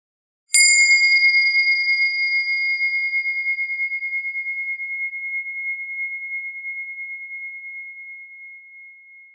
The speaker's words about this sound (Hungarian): Hagyd, hogy tudatod a csengő hangjának elhalkulásával együtt halkuljon el. Ahogyan a hang eltűnik, úgy tűnnek el gondolataid és érzelmed hullámai is. Megérkezel a csendbe, és a csengő vezet utadon.